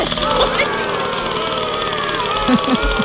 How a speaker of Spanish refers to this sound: Mira cómo suena ese motor.